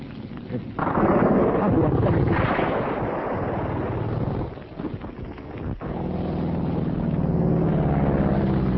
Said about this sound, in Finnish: Tulevat aivan tätä kohti. Ne ovat kaksi tummaa hävittäjää.